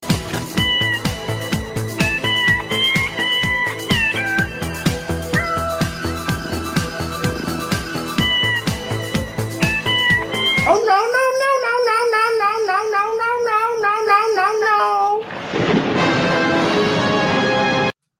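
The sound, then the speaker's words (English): A cat in a video being played meows repeatedly in long, wavering, high-pitched loud cries, following a stretch of rhythmic music, then blending into a dense, bright burst of sound near the end. “I want to pause this video and let you guys know that cats, I've heard, are in fact afraid of cucumbers.”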